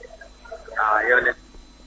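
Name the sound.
phone call cutting off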